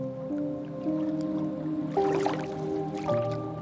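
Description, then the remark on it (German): Soft, gentle splashing and trickling of river water, with a couple of brief fuller splashes near the end, heard over a steady, calm background of sustained tones. “Du hörst das sanfte Plätschern des Wassers.”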